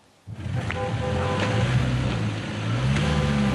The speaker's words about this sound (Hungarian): Lapáttal kellett kaparni a havat, hogy a kisbusz feljusson. De nem jutott fel az emelkedőn.